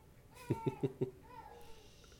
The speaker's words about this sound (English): That is my child screaming.